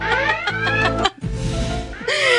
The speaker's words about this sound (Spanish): Mira, las alarmas se las dejamos a Arturo, que él es el alarmero. Arturo, prende la alarma.